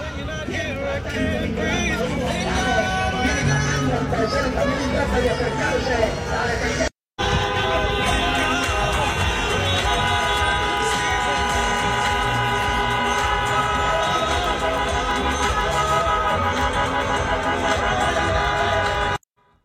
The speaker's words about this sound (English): Venezuelan people taking over Humboldt Park in Chicago for a celebration. Streets closed off, traffic nonstop.